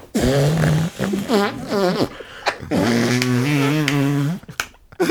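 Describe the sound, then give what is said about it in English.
Loud farting noises from a hand pressed against an armpit: three drawn-out, buzzy squelches with a wavering pitch and short gaps between them, and no talking. “I did an arm fart.”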